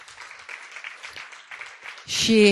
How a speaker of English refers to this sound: I think we can applaud Amanda. Yeah.